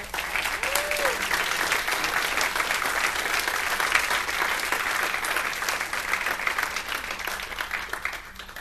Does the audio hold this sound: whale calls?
no